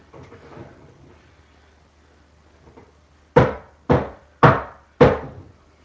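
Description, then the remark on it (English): Soft sloshing of liquid as a rotator is swished back and forth in a film developing tank, followed by four sharp, evenly spaced knocks as the tank is rapped on the workbench. “developing tank on the workbench so as to disturb any air bubbles and make them rise to the surface”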